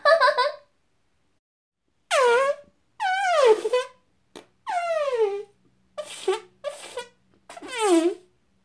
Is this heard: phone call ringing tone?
no